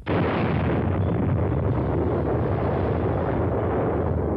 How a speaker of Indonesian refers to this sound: Sebuah ledakan terjadi dalam uji coba bom hidrogen 2 tahap RDS-37 milik Uni Soviet di lokasi uji coba nuklir Semipalatinsk 22 November 1955, sebuah kawasan yang ketika itu masih menjadi wilayah Republik Sosialis Kazakh Soviet.